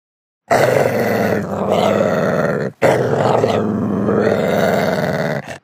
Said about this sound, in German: Ich spiele dir vor, wie knurrende Hunde klingen.